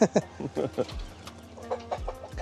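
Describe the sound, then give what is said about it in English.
Several Hiroshima chickens, a feather-footed breed created by Hiroshima University, cluck on a farm in quick, irregular bursts, with some faint background activity between the calls. “And over here we have our chicken.”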